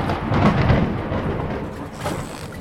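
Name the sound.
thunder sound effect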